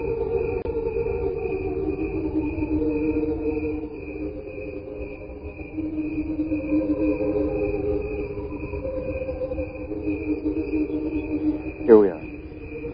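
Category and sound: insect, cricket chirping slowed down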